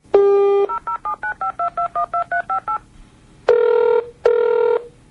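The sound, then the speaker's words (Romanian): A brief dial tone, then about ten quick touch-tone beeps in steady rhythm as a number is keyed for a call to Kostroma, Russia, followed by two long ringback tones on the line, clear and fairly loud with no talking. “Cel care a răspuns la apelul telefonic”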